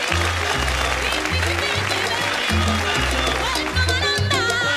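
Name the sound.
applause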